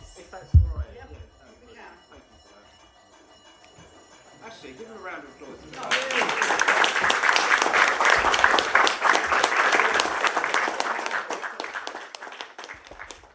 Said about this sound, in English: So what happened here, you may have heard it in the background, is the division bell rang, and what that is essentially a voting alarm. So it goes off and then MPs have to rush to the yes lobby or the no lobby to register their vote,